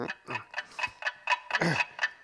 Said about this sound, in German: Guck mal. Hä? Das ist ja unser Wecker. Der macht das Geräusch. Das habe ich mir ja gleich gedacht. Ja, aber wieso liegt denn unser Wecker unter dem Bett? Na, den habe ich da drunter geschoben.